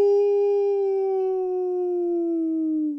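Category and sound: sound effect, wolf howling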